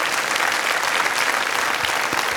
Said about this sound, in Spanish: Si Dios te habló, da un aplauso al Señor, que Él se lo merece. Amén.